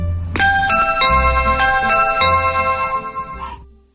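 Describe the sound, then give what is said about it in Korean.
A doorbell plays a bright electronic chime melody, about eight clear ringing notes struck in steady succession over a low hum, then fading out after three and a half seconds. “그때 초인종이 울렸다.”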